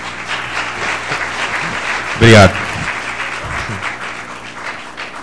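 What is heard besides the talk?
applause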